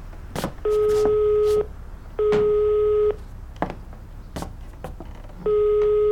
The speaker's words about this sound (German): So, ich rufe ihn jetzt an.